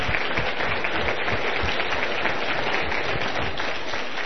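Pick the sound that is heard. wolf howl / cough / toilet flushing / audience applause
audience applause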